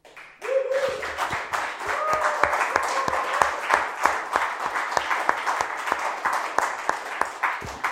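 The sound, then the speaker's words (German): A crowd at CryptoCon applauds steadily with dense, rapid clapping, plus whoops and cheering voices rising over it, sustained loudly for several seconds. “Ja, das ist die Jubel-Perser-Runde.”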